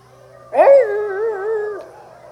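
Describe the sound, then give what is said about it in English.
A single drawn-out, wavering howl, an audience member imitating a bluetick hound dog, rises sharply and holds for just over a second before fading. It is fairly loud, with a faint low hum underneath. “You're saying to yourself, I paid to get in here, and now we're barking like dogs.”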